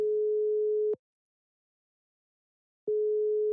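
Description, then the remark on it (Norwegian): A steady mid-pitched ringback tone sounds for about a second, goes silent for roughly two seconds, then starts again, like an outgoing phone call waiting to be answered. “Ja, nå vet folk hvem han så da ringer vi inn opp.”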